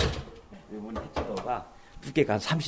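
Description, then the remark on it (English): A heavy, thick steel bunker door in Seoul, South Korea, built like a bank vault, rumbles and clanks as it moves, with a couple of sharp metallic knocks near the end, while people talk over it. “The bunker door is like a bank vault. Thick, cold steel, supposedly solid enough to keep out nuclear radiation.”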